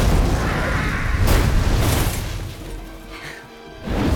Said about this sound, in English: A flaming car obliterates a watchtower and a golden flash.